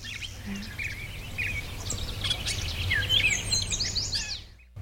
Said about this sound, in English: There was a yellow warbler there. That beautiful. Clear, sweet, sweet, sweet shredded wheat. That sort of thing. That's a yellow warbler. Okay. Bright yellow, beautiful bird.